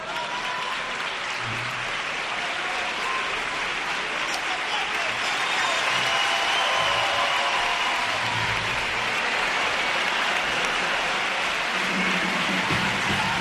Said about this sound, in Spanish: Porque vamos a recibir con un fuerte aplauso a la chirigota de Puerto Real.